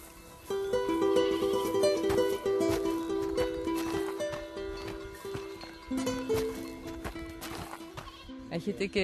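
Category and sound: animal, goats bleating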